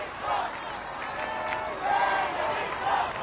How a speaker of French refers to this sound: Gravissant le podium, Benoît XVI salue les pèlerins avant de recevoir une étole faite par les aborigènes et représentant une colombe, symbole de l'Esprit Saint, toujours sous les cris de la foule.